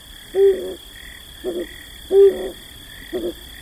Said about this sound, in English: Just as late summer darkness fully envelops eastern Washington mountains, a male flammulated owl begins to hoot.